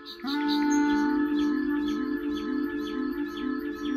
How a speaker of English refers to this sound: is still making music with nightingales